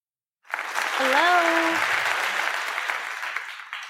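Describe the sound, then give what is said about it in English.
After a moment of silence, audience applause for a female guest bursts in and stays loud and steady to the end, with a brief rising vocal cheer heard over the clapping early on. “But without further ado, let's give her a round of applause real quick.”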